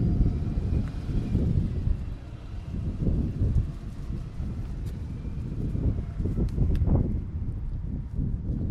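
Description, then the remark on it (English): Steady wind buffeting the microphone, a loud low rumbling roar that surges and dips over several seconds, with faint scattered clicks and knocks above it and no voices. “I probably will end up using the Zoom recording because this is very windy.”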